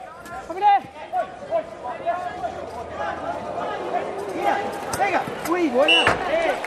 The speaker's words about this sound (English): With the ball making a distinctive sound as it rolls because it's got ball bearings inside it and verbal instructions shouted by, for example, a sighted goalkeeper, the key to playing the game is using the sense of sound.